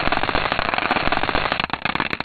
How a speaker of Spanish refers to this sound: Tenemos el sonido de un cometa, y este es el sonido del cometa Tempel 1. Pues cuando se pasó por las ondas Stardust, pasó al lado de él.